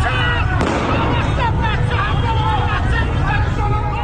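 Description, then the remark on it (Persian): One sharp gunshot cracks out near the start above a dense, loud crowd of shouting and agitated voices that fills the street throughout. The scene is a street in the Narmak neighbourhood of Tehran, Iran, where security forces were firing. “تصاویری که از خیابانهای ایران منتشر می شوند پر هستند از صدای گلوله و جراحت ساچمه هایی که در بدنها فرو رفتند.”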